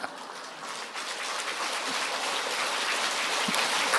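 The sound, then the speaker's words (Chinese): Sustained audience applause after a joke is told, a dense steady patter of many hands clapping that swells slightly after the first second and holds evenly, with no voices. “谢谢你们鼓励的掌声。”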